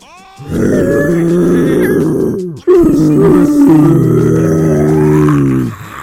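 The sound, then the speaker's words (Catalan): Two long, loud, growling roars from three angry bears in a forest, each rumbling low and harsh for a couple of seconds with a brief pause between them, and no talking. “Llavors, els tres ossos, enfadats, van deixar anar un crit ferotge que va ressonar per tot el bosc.”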